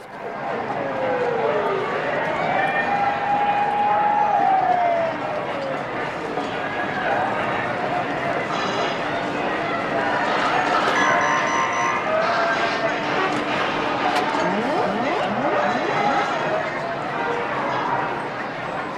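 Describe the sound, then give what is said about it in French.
Car horns honk over a busy city street in Philadelphia, in a scene from Brian De Palma's film Blow Out, steady tonal blasts rising above a dense wash of traffic and crowd noise, with voices murmuring underneath. “Vous l'aurez compris, on entend des avertisseurs sonores, oui, pour un phénomène que je qualifierais arbitrairement de syndrome du klaxon ou de la sirène.”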